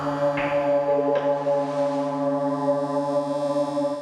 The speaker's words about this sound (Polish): słychać pracę dźwigów, słychać pracę sztaplarek, tego wszystkiego, co tu się dzieje. Pracujących szlifierek, odgłosów palenia stali, czy takich typowych, industrialnych.